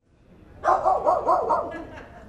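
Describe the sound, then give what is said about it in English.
A fluffy white Bichon Frise barks behind the scenes while a dog show is being set up, a quick burst of about five fairly loud yaps in a row, then falls quiet against faint background noise. “with just one canine companion on site, Polar, a fluffy white Bichon Frise”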